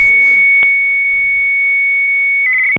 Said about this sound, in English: Whoa. That wasn't even a fax machine. See, his whatever computer modem thing he has hooked up to his line, that's louder than the whistle.